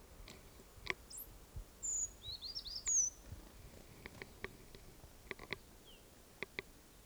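Several thin, high-pitched bird calls and brief chirps from a flock, including a 'toop' alarm call by one bird, scattered through a quiet outdoor background, with a short burst of quick notes near the start and sharp isolated calls later.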